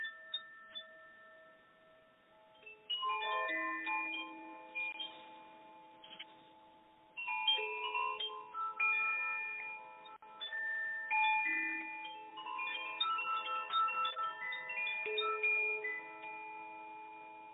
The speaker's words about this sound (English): So, dear listeners, I invite you to just close your eyes for a moment, as long as you're not driving or anywhere we're operating a vehicle. And just listen for a moment to these chimes.